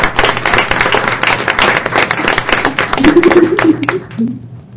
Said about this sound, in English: let's give them a round of applause for their work.